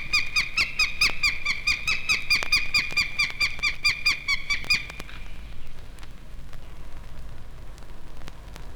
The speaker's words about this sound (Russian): Ястреб-тетеревятник обеспокоен появлением людей у гнезда.